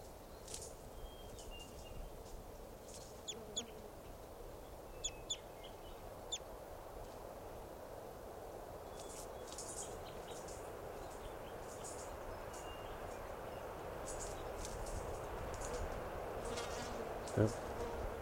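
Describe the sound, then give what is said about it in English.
Short, high-pitched calls from a small flock of about 10 or 12 type two birds, perched on top of a tall Douglas fir by a camp and fluttering around, come in scattered bursts, some doubled, over a steady low buzzing drone that persists throughout. “Our type twos must be about 10 or 12 birds.”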